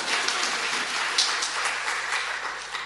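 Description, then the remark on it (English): An audience claps steadily for about three seconds for the speaker having been chief steward for a whole week. It is a dense, even patter of many hands at moderate loudness with no voices over it. “That deserves a little bit of a clap, surely.”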